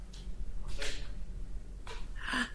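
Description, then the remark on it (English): During a court hearing, someone clears their throat in a few short, raspy bursts spaced unevenly over a couple of seconds, not loud, with no talking. “Don't clear your throat.”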